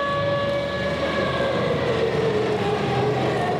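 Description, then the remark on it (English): Air raid sirens wail steadily in Kyiv, Ukraine, during a Russian missile and drone attack, over a dense layer of noise, their sustained tones holding without break for a few seconds. “Air raid sirens sounded in Kyiv, but there were targets elsewhere.”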